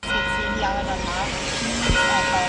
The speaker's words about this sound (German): Nur die Kirchenglocke bleibt nicht still an diesem Vormittag auf dem Hauptplatz in Graz.